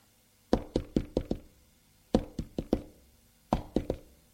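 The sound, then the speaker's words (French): Three bursts of knocking on a bedroom door in Lyon, each a quick series of four or five sharp raps with short pauses between, clear with no voices; a maid knocking in the morning to bring breakfast. “la bonne est allée frapper à la porte de la chambre d'Apolline pour lui apporter son petit déjeuner”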